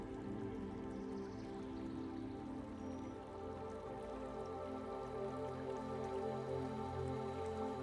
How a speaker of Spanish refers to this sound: En poco tiempo, el camino llega hasta un bonito puente de piedra muy antiguo, cubierto con algunas enredaderas y que cruza un riachuelo de agua dulce y cristalina que fluye suavemente.